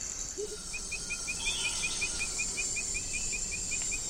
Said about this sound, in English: And those continuous sounds? Those are insects.